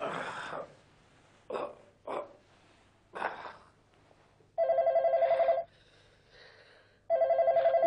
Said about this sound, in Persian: یکیتون اون تلفن رو برداریم بابا جا. آخه بابا، بچه ها چرا پس تلفن رو بر نمیدارین عزیزم؟